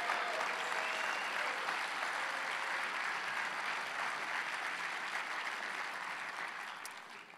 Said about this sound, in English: And I want all the brides to stand on up. Give those, the brides, the ladies, let the ladies, give the sisters a round of applause.